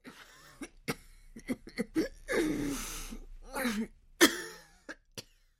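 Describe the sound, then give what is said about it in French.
A sick woman coughs painfully in short, ragged bursts, with laboured, rasping breaths and throat-clearing between them, coming from a dark bedroom, fairly loud, with no talking. “De la chambre sombre vient le bruit de la respiration laborieuse et de la toux douloureuse de l'épouse d'Ungu”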